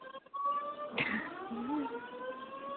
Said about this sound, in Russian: Сирена тут у нас. Пожарная тревога у вас там или что? Ага, сработала.